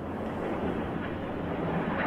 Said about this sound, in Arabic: هذه أصوات الطائرة، أصوات المضادات، المضادات الأرضية في مدينة القدس المحتلة.